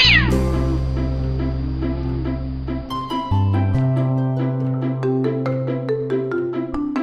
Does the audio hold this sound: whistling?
no